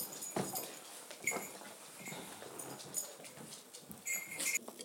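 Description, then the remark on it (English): A dog whimpers in thin, high-pitched bursts, some drawn out, over soft clicks, scratching and movement. The whines are fairly quiet and come and go across the few seconds. “Okay, I'm going to feed the dogs now.”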